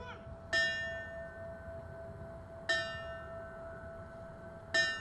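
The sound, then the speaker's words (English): A fire bell rings out in three slow, evenly spaced strikes at a 9/11 memorial ceremony in Riverfront Park, Springfield, in front of the 9/11 monument; each clanging hit leaves a sustained metallic tone that hangs in the air over a low outdoor rumble. “As in past years, there were prayers, solemn remarks, a rifle salute, the playing of taps, the ringing of a fire bell, and a rollout of emergency vehicles.”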